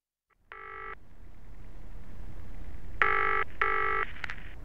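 An electronic telephone rings in three short, bright tonal bursts: a single ring, a pause, then two rings close together. They sound fairly loud over a low background hiss, with no talking.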